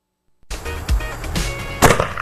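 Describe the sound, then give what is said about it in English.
A homemade Polish cannon fires a tennis ball with a sudden heavy thump, then a rattling, hissing rush and a second sharp crack-like burst, all loud against an otherwise quiet start. The ball flies about 200 yards and hits a tree about 40 feet up. “Oh, we have a Polish cannon shooting a tennis ball, everyone.”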